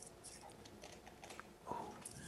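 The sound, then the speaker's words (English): A few small, sharp clicks of the five clasps on a case snapping open, quiet, spaced irregularly with one slightly louder snap near the end and no talking. “Is it the clicking of the?”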